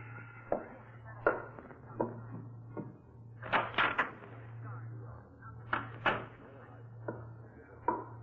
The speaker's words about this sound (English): When you come into this house, close the door quietly,